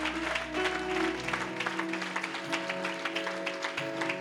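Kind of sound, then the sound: crowd, audience clapping hands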